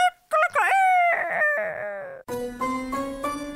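A single loud rooster crow rings out, rising then trailing off, followed by a sustained steady tone.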